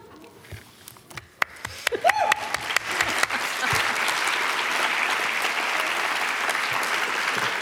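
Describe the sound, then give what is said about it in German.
Mid-scene applause from a live show audience starts with scattered individual claps, then swells within a few seconds into steady, loud, dense clapping that holds to the end, with faint voices in the crowd. “Szenenapplaus, meine Sorte von Publikum.”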